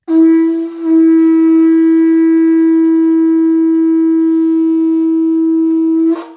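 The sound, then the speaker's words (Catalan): A horn made from a snail shell, blown by a prince in a forest, sounds in one long, steady, loud note lasting about six seconds, with a brief dip near the start and rich harmonics, sounding alone without any talking. “El so del corn es va sentir en tot el bosc i tots els personatges de conte que s'hi trobaven van dirigir els seus passos al clar del bosc, on eren la fada i el príncep.”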